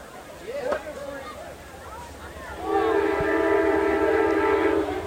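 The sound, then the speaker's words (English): A train horn sounds a long, steady multi-tone blast over a low rumble of rail traffic in the rain beside a football game, with faint indistinct voices underneath before the horn begins. “We have rain and trains.”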